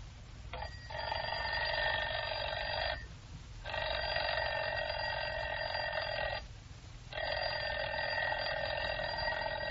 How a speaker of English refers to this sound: I just want you to listen while I ring this alarm clock. Just wait till I get it set. Yeah, now there she is now.